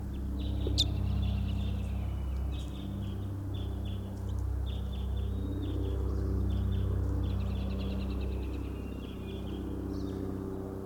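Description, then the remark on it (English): A faint, distant type 5 bird call from across a clearing, repeated high-pitched chirping phrases strung across the whole stretch, sitting above a steady low rumble, with no voices. “Third recording, this is a type 5 bird way across the clearing.”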